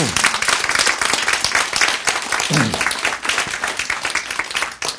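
An audience breaks into sustained applause, many hands clapping in a dense, steady patter that stays loud for about five seconds with no talking over it.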